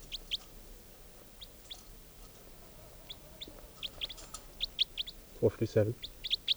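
Two birds, numbered 456 and 457, chirp in quick, high-pitched bursts throughout, with one lower, throaty squawk near the end, all over a steady hiss of background noise.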